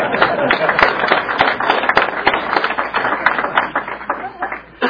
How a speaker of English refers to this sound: As you can tell by the resounding applause, they're thrilled that you've been elected.